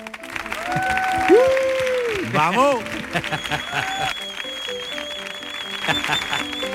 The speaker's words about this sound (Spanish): Fuerte el aplauso para Mar Lenders.